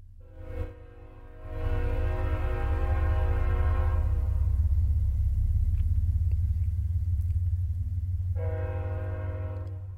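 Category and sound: vehicle, train passing by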